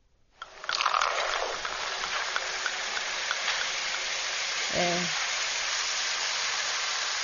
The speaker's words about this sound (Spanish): ¿Esto es el típico chisporroteo de una bebida con gas? Ahí está, una pepacola, vamos a decir.